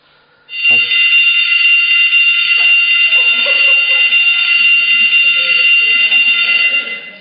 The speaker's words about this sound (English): That was the school bell, by the way, if you're listening to this on the tape.